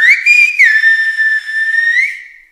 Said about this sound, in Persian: و این یکی توی کلاس سیلبا هست که معلم به بچه ها مکالمه ای رو به اسپانیایی میگه و اونا باید همون رو سوت بزنن.